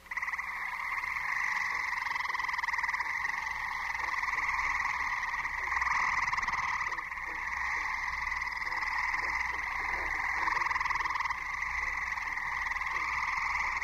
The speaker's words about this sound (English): I think there's a bird in that tree and he's calling and I can't see him and he's not moving, you know, he's in the same spot hour after hour. And it turns out I was listening to gray tree frog.